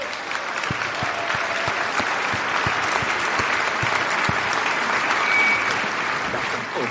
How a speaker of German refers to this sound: Einen riesengroßen Applaus bitte